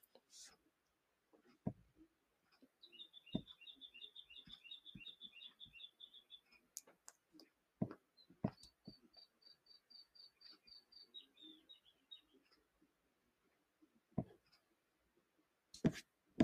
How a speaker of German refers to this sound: Genau, das war mein Vogel. Das war. Keine Ahnung, was für ein Vogel es war.